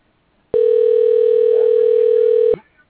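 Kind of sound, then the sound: signal or alarm, telephone ringing tone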